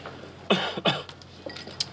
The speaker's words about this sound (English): When he gets a good hand, he coughs.